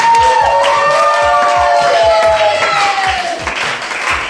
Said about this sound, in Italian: E il fatto di questo nuovo gruppo, a cui adesso chiedo di fare un grande applauso, loro sono gli …. Bravi, benvenuti!